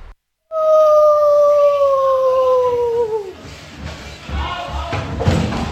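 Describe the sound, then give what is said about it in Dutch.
A child's voice imitates the howl of Akela the wolf from The Jungle Book: one long, loud, sustained note that slowly slides downward in pitch for about three seconds, then trails off into soft rustling and thumps. “Ik ben Akela de Wolf.”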